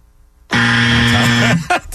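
A loud, harsh quiz-show buzzer blares for about a second, then a second brief blast follows right after, with no talking over it.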